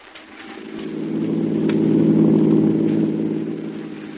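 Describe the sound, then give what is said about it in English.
A car engine hums steadily with a low, rumbling drone while driving through the country on an afternoon. The drone swells in the middle and eases slightly toward the end, with no voices over it. “We're out for driving the country, and you're very quiet,”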